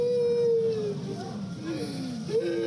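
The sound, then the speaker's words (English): Children and their parents, some critically wounded, wail and scream after a suicide bomb blast at an educational institution in Kabul, in long, drawn-out, falling tones, several voices overlapping over a constant murmur of commotion, loud and continuous throughout. “The sound of children and their parents wailing, some critically wounded, others screaming to the lifeless bodies of their loved ones.”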